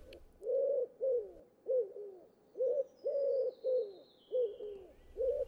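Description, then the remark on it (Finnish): A dove coos in a steady, repeating pattern of soft, low, rounded calls, clear, with a faint high whine drifting across the background. “Kyyhkyjä on useita lajeja.”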